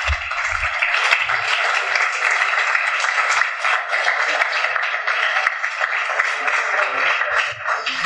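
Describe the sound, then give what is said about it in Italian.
Sustained audience applause fills the whole stretch, a dense, steady wash of many hands clapping at an even loudness, with no one speaking over it. “Ora, o mi bloccate con un applauso, una cosa, io continuo.”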